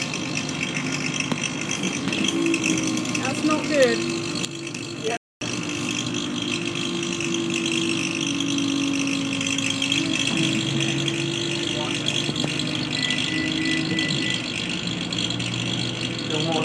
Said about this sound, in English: There's a weird noise. There's a funny noise from the radiator.